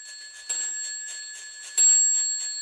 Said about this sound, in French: 11 heures sonnent.